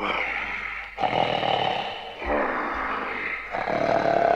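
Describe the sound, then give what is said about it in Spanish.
Loud, raspy snoring of a wolf asleep in bed, a series of long rumbling breaths following one another with brief pauses between them, with no talking. “Tan pronto hubo saciado su apetito, se acostó de nuevo, y quedándose dormido empezó a roncar ruidosamente.”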